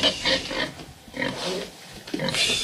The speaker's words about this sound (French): Alors, on sort le cochon. Il faut faire attention, il ne faut pas lui faire peur.